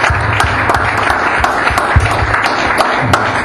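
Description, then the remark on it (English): A church audience claps and applauds together in praise during a sermon, a dense, steady patter of many hands at fairly loud level for a few seconds, with no one speaking over it. “Let's clap for the King of Kings.”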